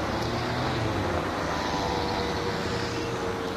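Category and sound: ambience, traffic jam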